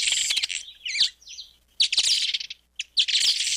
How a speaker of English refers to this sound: Increasingly, though, bird lovers are relying on audio recordings like this one. That's a village weaver.